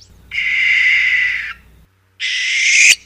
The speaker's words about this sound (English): Barn owls make a variety of sounds, including hisses, snores, and wheezes. Their most common vocalization is a screechy call.